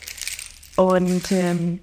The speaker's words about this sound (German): Diese hier heißen Pala Chimes. Die gibt's auch mit unterschiedlichen Samenarten. Die hören sich dann ein bisschen unterschiedlich an, ja. Aber auch sehr, sehr schön und auch sehr, sehr entspannend und beruhigend, finde ich, dieser Sound.